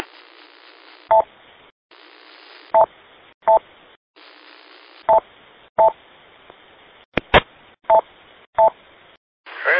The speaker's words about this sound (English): Making it into the Echo Link node for some reason. It keys up and I get two tones. I get a loud tone and a lower tone, and then it drops out.